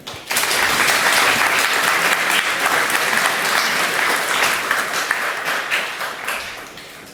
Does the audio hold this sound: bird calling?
no